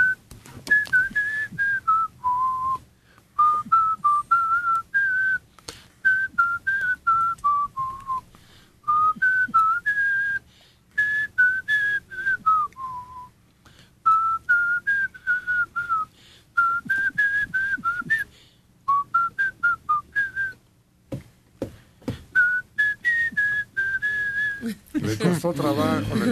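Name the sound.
person whistling a tune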